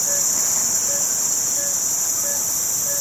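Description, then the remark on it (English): A dense nighttime insect chorus buzzes steadily in a tropical rainforest in Borneo, with shrill overlapping trills, while a regular, repeated call, likely a frog, sounds about once a second. No one speaks. “And then suddenly the sort of cacophony of the tropical forest at night hits you.”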